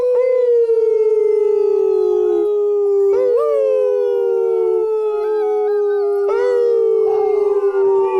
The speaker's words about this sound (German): wenn wir jetzt so richtig anfangen zu heulen, heulen die dann mit, die Wölfe? Wie, normalerweise heulen die Wölfe mit, ja, aber hundertprozentig kann ich es nicht sagen. Wir können es gerne mal probieren.